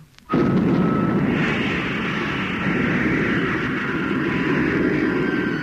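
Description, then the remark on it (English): A spacecraft's jet motor is cut in during a landing approach, bursting into life with a sudden ignition, then roaring loud and steady for several seconds, a dense rumbling blast threaded with a thin high whine. “I'm going to cut in the motor.”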